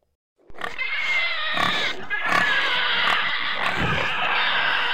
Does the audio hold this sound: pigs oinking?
yes